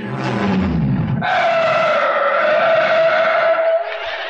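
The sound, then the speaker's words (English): A car engine roars up loudly as the car speeds into a driveway, then tires let out a long, high, sustained screech of skidding that holds for a few seconds before cutting off abruptly. No one speaks. “The next time it happens to you, drive into the driveway. Let the whole cotton picket neighborhood know you have arrived.”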